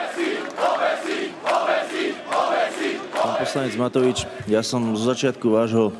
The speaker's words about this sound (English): The crowd responds with chants of "hang them" before one of the people on stage burns the EU flag.